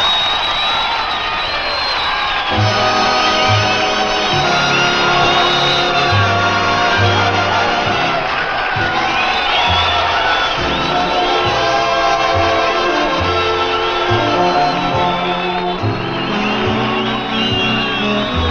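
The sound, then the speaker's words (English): A large live audience of friends, neighbors and buddies, gathered for a National Guard show with a band, cheers and whoops continuously, with loud overlapping shouts and yells forming a dense, sustained roar that fills the whole stretch without letting up. “And we've got a whole crowd of your friends and neighbors and my buddies here for a frolic to the tune of our National Guard Band of the Month, ….”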